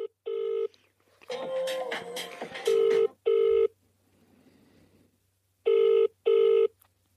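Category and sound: signal or alarm, telephone ringing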